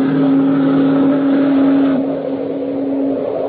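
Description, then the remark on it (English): A car drives into the moonlight with a loud, steady engine drone and a strong low hum that shifts slightly partway through, with no voices. “He drove with Lenore into the moonlight.”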